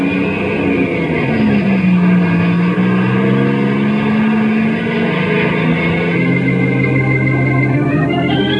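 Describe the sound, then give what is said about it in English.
A truck engine drones loudly and steadily as the truck drives down to the warehouse, its pitch rising and falling slightly with the revs, continuous with no voices. “I'm gonna ride in the truck down to the warehouse.”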